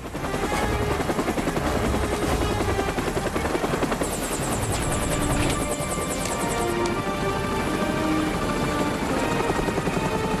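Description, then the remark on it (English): Loud, steady rotor thumping of three helicopters that come in low overhead and hold a stationary hover as ropes are lowered for Navy SEALs; a dense continuous roar with rapid blade chop and a high whine that briefly rises midway. “The three helicopters come to a stationary hover.”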